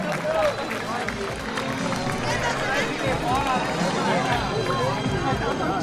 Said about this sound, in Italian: Un grosso applauso ai vostri sponsor e grazie di tutto!